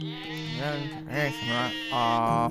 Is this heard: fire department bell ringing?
no